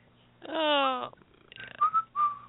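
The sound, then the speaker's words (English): A person idly whistles a few short, clear notes while waiting for something to load, preceded by a brief voiced hum-like tone, with no talking. “That's my loading whistle.”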